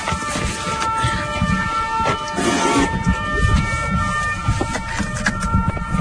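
A two-tone alarm chime at the CEA Val-Duc centre, not far from Dijon, rings out in sustained, steady tones over a constant low rumble and wind-like noise, with no voices.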